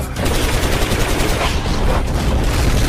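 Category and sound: sound effect, gunfire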